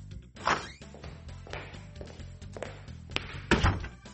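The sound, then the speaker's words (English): A man opens a creaking door, a few muffled footsteps thud across the floor as he walks into a room, and he shuts the door with a soft thunk, against a low background hum with no talking. “Oh, a man is opening a door, walking into a room, and then closing the door.”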